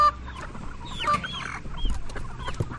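Caged chickens on their way to be slaughtered at a processing plant cluck and squawk continuously, many overlapping calls with a busy, noisy background and no talking.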